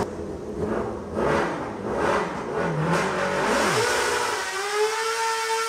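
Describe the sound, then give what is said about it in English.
A miniature truck engine revs hard several times, its pitch surging and dipping in quick bursts before settling into a sustained high-pitched whine. No one speaks. “They're like street bike motors, huh?”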